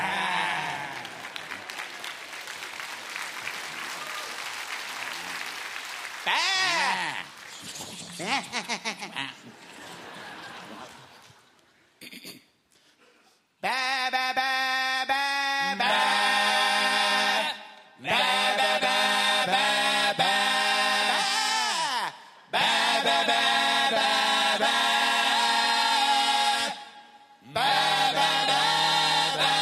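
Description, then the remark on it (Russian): A group of voices sings loud, sustained notes in several long bursts separated by short pauses, with a rough, bleating quality, after a stretch of noisy crowd sound and clapping. “Поете как бараны, но лучше, чем ….”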